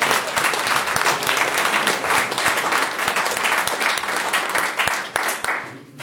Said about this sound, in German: Okay, vielen Dank und nochmal ein extra Applaus.